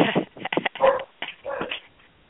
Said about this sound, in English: No, sorry. My dogs are barking. Hold on.